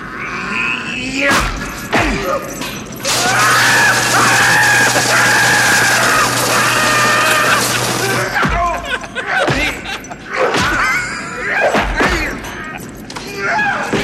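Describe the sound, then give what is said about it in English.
A man grunts and groans in a strained, drawn-out series, with a loud sustained scream in the middle, amid loud thuds and crashing impacts. “That was an amazing series of grunts and groans.”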